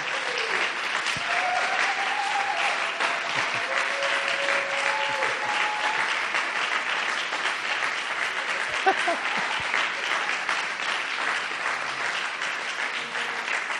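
Sustained audience applause, a dense steady wash of clapping lasting the whole clip with even loudness, a few faint voices and whoops rising briefly above it.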